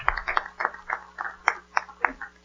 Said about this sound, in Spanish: Aplausos a nuestro Dios. Gracias, Señor.